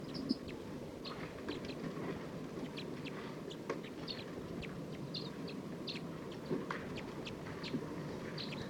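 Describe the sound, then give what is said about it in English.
A wild flock of about 14 birds, bright red males and some females, calls nonstop from up in the trees: many short, high chirps and whistles overlap at an irregular pace, fairly faint over a steady low rumbling background. No one speaks. “This is recording wild bird. This is a wild flock. Calling a lot more, looks like they're gonna take off.”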